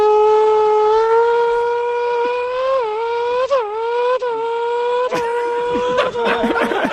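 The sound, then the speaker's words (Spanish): A voice imitates a Formula 1 car doing the race start, with a loud, sustained nasal engine whine that slowly climbs in pitch, dips briefly a few times like gear changes, then breaks into sputtering bursts. “A ver cómo suena un coche de Fórmula 1 desentrenado.”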